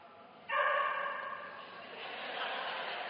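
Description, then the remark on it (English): A dog barks sharply once, then keeps up a drawn-out, whining bark that trails off, with a faint hum behind it and no talking. “The dog gets it better than you all.”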